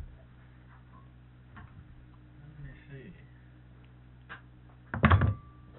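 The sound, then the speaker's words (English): A mowing machine's spring-loaded slip clutch rattles as its gear slips, in scattered, irregular clicks and ticks over a low mechanical hum, building to a sharp, loud clattering knock near the end, with faint voices murmuring underneath. “What's all that rattling I heard? On that mowing machine? Yeah. That's that slip clutch slipping.”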